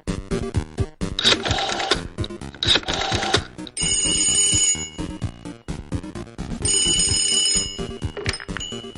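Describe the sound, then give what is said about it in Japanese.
A telephone rings loudly, its rapid metallic trill coming in repeated bursts with brief pauses between them. No voices are heard. “もしもし、カービィです。僕の声聞こえる？電話って不思議だよね。”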